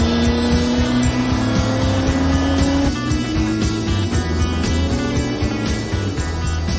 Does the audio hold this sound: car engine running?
yes